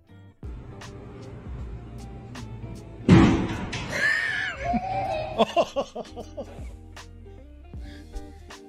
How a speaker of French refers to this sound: C'est une compilation de gens qui rentrent dans des portes vitrées.